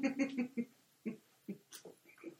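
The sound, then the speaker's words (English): A dog in the background making a string of short, throaty noises while destroying something, his toys, coming in quick bursts then scattered yips, fairly faint and with no talking. “He has to go get the dog who's destroying something at the moment. We can hear him.”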